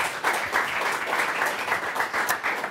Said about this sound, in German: Aber jetzt habe ich auch schon wieder den Applaus weggeredet.